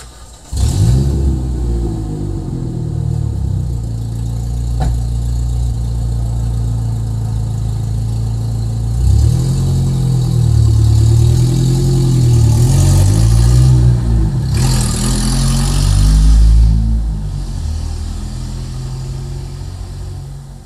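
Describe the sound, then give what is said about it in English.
A truck engine starts up, idling with a steady low rumble before revving repeatedly, pitch rising and falling in surges as it drives, loud and continuous throughout with no talking. “I was going to say that way you could have a pretty pleasant walk without worrying about being distorted, but let's see what the truck sounds like.”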